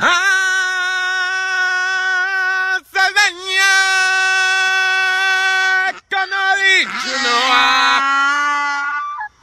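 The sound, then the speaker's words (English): In South Carolina, a man belts out long, loud sustained notes, singing to his donkey while it brays along, the harsh wavering bray rising and dipping beside his voice in two or three drawn-out bursts. “decided he was going to sing the Lion King opening song to his donkey. and the donkey appears to sing along”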